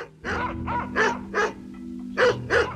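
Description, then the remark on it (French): Dogs barking at a distance in the background of a recorded emergency call, about six or seven sharp barks in an uneven rhythm with a pause midway, over a steady low hum in the background. “Et ils entendent en arrière-plan des aboiements lointains.”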